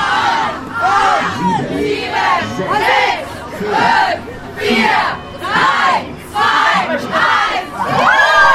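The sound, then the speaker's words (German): A large crowd on the Bahnhofstraße cheers and shouts at the opening of a new H&M store on 19 February, in loud, rhythmic waves, about nine surging bursts in a steady chant-like pulse, with overlapping excited voices and no clear speech. “Aber am 19. Februar klang es da so.”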